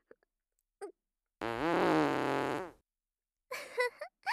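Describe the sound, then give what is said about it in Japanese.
A woman's loud, drawn-out fart rumbles for over a second with a buzzy, fluttering tone, followed shortly after by a few shorter, sputtering bursts. No one speaks. “大きいお尻の美人父兄さんのおなら。”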